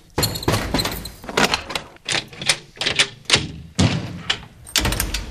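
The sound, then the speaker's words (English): A door is pushed closed and shut, with a quick run of sharp clunks and rattling knocks spread over several seconds and no voices. “Before Zane Lowe comes up at 7 o'clock tonight, make sure you close the door behind you.”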